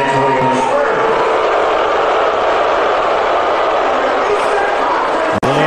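A large crowd of Knicks fans inside Madison Square Garden boos Trump loudly and steadily on a Monday evening, a dense wall of many voices that holds for several seconds with no pause, then cuts off briefly in a sharp click near the end.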